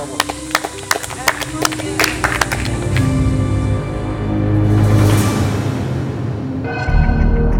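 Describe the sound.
A quick run of sharp hand claps in the first few seconds, irregular and fairly loud, then a sustained hum of background noise and murmuring voices takes over.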